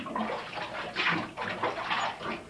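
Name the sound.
water splashing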